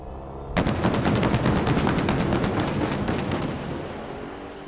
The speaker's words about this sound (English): That is the purr of the last gas-powered muscle car Dodge is ever going to make. End of an era. At the Las Vegas Motor Speedway, the automaker unveiled the truly outrageous Challenger SRT Demon 170 on Monday.